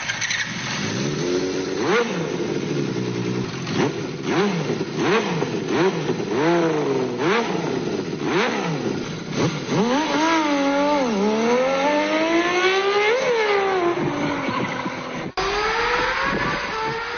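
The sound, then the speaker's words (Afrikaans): A six-cylinder Honda CBX motorcycle engine revs repeatedly, its pitch sweeping up and down in sharp bursts, then climbing into longer, higher wails before settling, loud and continuous throughout with no one talking. “Daai 6-silinder klank is so uniek.”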